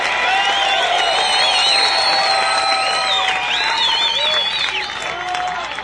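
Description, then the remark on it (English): Loud, sustained applause and cheering from a large crowd at a rock concert as the bass guitarist is introduced, with whistles and shouts rising over steady clapping throughout, fading slightly toward the end. “Nice round warm of applause.”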